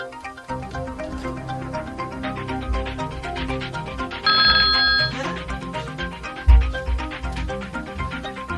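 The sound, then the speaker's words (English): A telephone rings with an incoming call, a single bright, electronic burst about a second long, standing out over a steady bed of background music. Nobody speaks. “Of course, he calls when I get up from the chair.”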